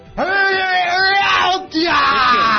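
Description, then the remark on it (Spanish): A single voice mimics a loud, drawn-out scream, holding one long strained cry before a brief catch of breath and a second sustained wail. “Dios, y volverá a gritar a China. No. Volverá a hacer eso de.”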